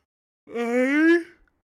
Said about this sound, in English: Just yawned. Sorry.